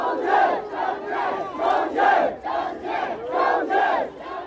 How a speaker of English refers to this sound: These 3 minutes of silence have turned into many, many minutes of raucous cheers and chanting. It's interesting. It's certainly not a celebration. It's not a protest. But it's a rallying, it's a patriotic rally.